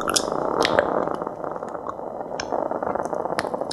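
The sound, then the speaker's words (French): Sap flowing inside a baobab tree: a dense, steady bed of wet crackling and bubbling, dotted with sharp little clicks and pops throughout, with no voices. “c'est de la sève qui coule à l'intérieur d'un baobab”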